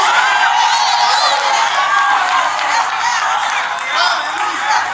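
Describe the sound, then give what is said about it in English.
A large crowd shouts and cheers continuously for the full few seconds, a loud, dense wash of many overlapping voices whooping and yelling together with no single speaker standing out. “See, we were shouting financial debt walls down.”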